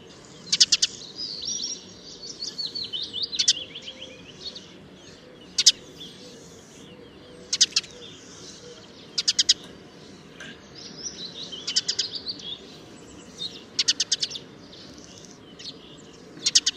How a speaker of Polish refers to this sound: Głos mazurka w pierwszej chwili jest dość podobny do głosu wróbla. Ale nawet osoba zupełnie nie mająca muzykalnego ucha odróżni głos mazurka po tym, że często weń zostaje wpleciony rozedrgany metalowy terkot.